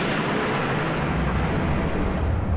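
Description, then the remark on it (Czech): A continuous deep rumble of thunder from an approaching storm rolls on without a break, broad and heavy with strong low end, holding at a steady loudness throughout with no voices present. “Blíží se bouře a jinoch zápasí se zbytkem docházejících sil. Zdá se mu, že mezi hřměním rozeznává mužskou řeč.”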